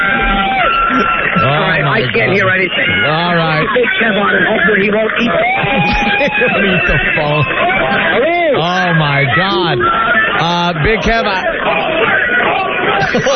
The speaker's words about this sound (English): They're chanting homeless. They're beeping horns. Boy, for 15 or 20 minutes notice, they got quite the crowd there.